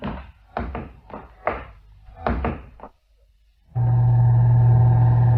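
Several heavy metallic clunks and thuds as an elevator door shuts, a brief pause, then a loud, steady mechanical hum with a droning tone as the lift starts moving up to the first floor.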